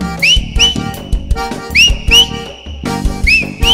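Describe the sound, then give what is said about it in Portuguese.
Short, upward-swooping whistles repeat in quick pairs over a thumping beat, loud, forming a catchy rhythmic pattern with no voices. “vai fazendo o assobio.”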